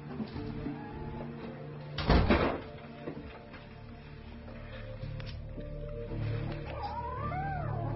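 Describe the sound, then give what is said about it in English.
A cat, kept by Milverton, yowls and caterwauls in drawn-out, wavering cries, with a louder rising-and-falling meow near the end. A brief thump interrupts partway through, and a low hum sits underneath. “He keeps cats.”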